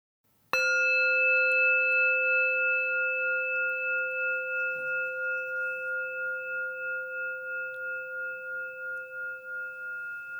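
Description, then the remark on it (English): A single meditation bell struck once to begin a body scan meditation, its clear, steady tone ringing out loudly and then sustaining with a slow, gently pulsing decay for about ten seconds, with no talking. “We'll begin this meditation with one sound of the bell.”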